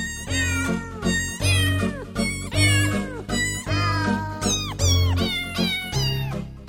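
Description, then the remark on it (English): Cat meows pitched to a Christmas carol tune, a steady run of sung notes over a repeating bass backing, loud with no talking. “the sound of cats belting out O Little Town of Bethlehem”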